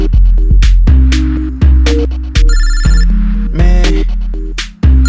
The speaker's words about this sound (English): I shouldn't answer this phone, yo.